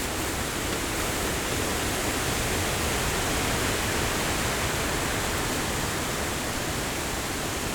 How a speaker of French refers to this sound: Car la météo est plutôt mauvaise. Beaucoup de vent.